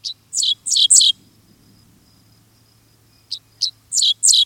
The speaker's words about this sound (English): A dickcissel offers its rough notes.